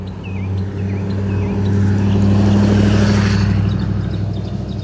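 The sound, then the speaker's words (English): A truck drives by a sidewalk with a deep, steady engine rumble that builds to a loud peak midway, then fades slightly. Faint bird chirps sound above the drone, and no one speaks. “I wasn't even finna try to talk over that truck.”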